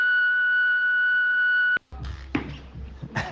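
signal or alarm, voicemail beep

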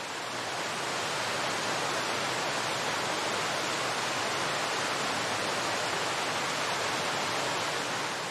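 nature, waterfall rushing water

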